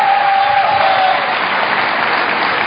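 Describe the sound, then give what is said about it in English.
Loud, sustained applause from a large audience as Representative Ron Paul is introduced among the candidates, louder than for the others: a dense steady wash of clapping with a faint whistle rising above it early on and no pauses throughout. “Significantly louder applause for Ron Paul than any of the other candidates.”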